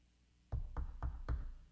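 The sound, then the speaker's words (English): Four firm, evenly spaced knocks on a door, fairly loud with a deep thud to each, sounding alone with no voices around them. “This lady got a knock on her door.”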